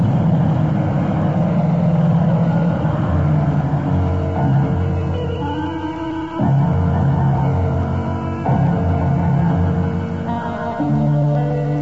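race car engine roaring

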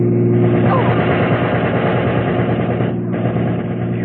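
machine gun fire

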